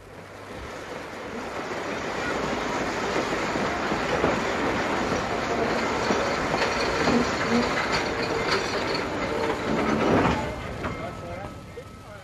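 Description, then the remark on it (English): A train rumbles through Weybridge Railway Station with a steady roar and hiss that swells briefly near the end before easing off, with no clear talking over it. “he was ordered to report to Weybridge Railway Station, where he would be met by a certain man.”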